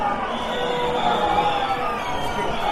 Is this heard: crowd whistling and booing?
yes